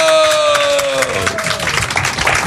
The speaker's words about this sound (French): On peut les applaudir et vous pouvez rejoindre la fin de la salle. Applaudissez-les encore.